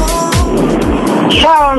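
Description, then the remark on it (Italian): Steady rumbling road and engine noise from inside a moving car, thin and muffled as a caller phones in from the car over a phone line, with a voice talking on top of it. “Tutti a quest'ora, sentiti in buona compagnia, che sono tutti in macchina a quest'ora.”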